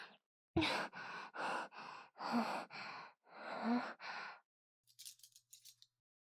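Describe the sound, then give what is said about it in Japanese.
Scissors snip steadily through fabric, about eight crisp, rasping cuts in a row, followed by a few faint, quick metallic clicks. No one speaks. “ハサミ？”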